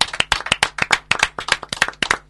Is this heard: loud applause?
yes